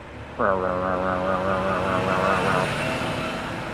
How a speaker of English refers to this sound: And I realized, oh my God, it was just a garbage truck in the alley next door that happened to be coming down the alley way too fast right before that.